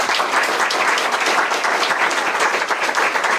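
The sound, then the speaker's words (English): A crowd applauds the candidates steadily, a dense wash of many hands clapping at a constant, fairly loud level without pause, with no voices rising above it. “Another round of applause for our candidates.”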